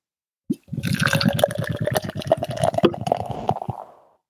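Lager beer pours into a glass in a steady, gurgling stream for about three seconds, its pitch rising as the glass fills, then trails off into a soft foamy fizz as the beer foams heavily.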